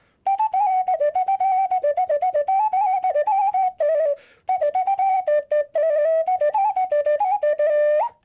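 A ceramic ocarina, called zozulka in Ukraine, plays a quick, lively tune of pure, breathy whistling notes, loud, with short rapid phrases and a brief pause midway. No voices.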